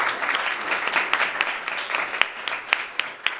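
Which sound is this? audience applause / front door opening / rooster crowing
audience applause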